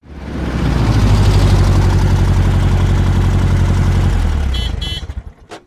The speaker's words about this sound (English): Aunt Rose came in her car.